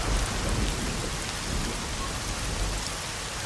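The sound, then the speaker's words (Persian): Steady, heavy rain pours down on a street where a car is parked at the corner, a dense continuous hiss of drops hitting pavement with a low rumbling undertone, constant throughout with no voices. “ماشین گوشه خیابون زیر بارون متوقفه.”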